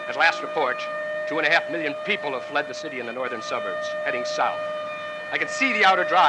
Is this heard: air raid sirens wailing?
yes